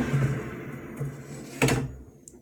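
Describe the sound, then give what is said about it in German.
An air fryer basket is pulled out after the timer beeps, to shake the contents and add fish sticks, with a brief sliding scrape and a solid clunk, over the air fryer's steady droning fan hum that stops right afterward. “Das heißt, wir ziehen den Korb einmal raus.”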